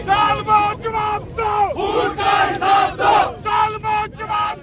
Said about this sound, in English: Oppressor, give us an answer, the demonstrators cry. Account for the blood you shed. The crowd of a couple hundred gathered at the spot where the jailed American allegedly shot dead two Pakistanis, who he claimed were armed robbers.